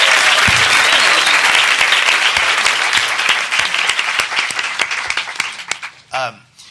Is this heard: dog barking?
no